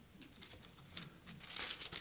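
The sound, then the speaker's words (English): Soft, papery rustling and crinkling as the thin pages of a new Bible are handled and turned, several quick brushing bursts building to a fuller rustle near the end, fairly quiet with no voices. “New Bibles and thin paper.”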